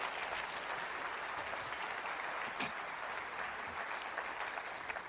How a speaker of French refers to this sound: Applaudissez Dieu pour sa bonté envers vous.